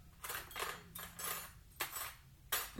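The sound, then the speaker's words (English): Metal silverware clinks and rattles in several short bursts as pieces are gathered up and knocked together, with brief pauses between handfuls. “Okay, can you grab the silverware, babe?”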